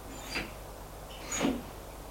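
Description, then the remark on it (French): A man closes a room door after showing a woman in: two brief, muffled clunks about a second apart, the second slightly fuller, fairly quiet against a faint background hiss, with no voices. “Il la fait entrer. Il ferme la porte.”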